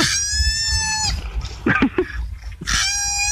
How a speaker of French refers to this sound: C'est un koala qui crie pour attirer les femelles. Ouais, c'est le cri qui fait rameuter toutes les femelles du quartier.